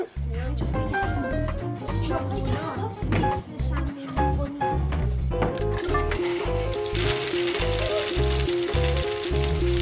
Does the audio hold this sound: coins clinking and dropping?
yes